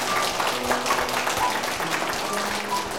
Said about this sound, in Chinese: 我们好感谢主，今天我们有四位朋友愿意来到接受耶稣基督做救主，我们给掌声我们神好吗？